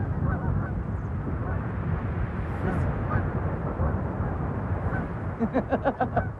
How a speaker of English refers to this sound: Sounds like those birds have a motor all their own. I think they're headed in our direction.